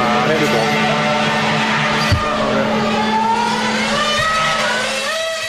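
A car engine roars loudly at full throttle as the car drives at top speed toward another car, revving hard with its pitch climbing and wavering for several seconds, with a brief tire-squeal edge mixed in.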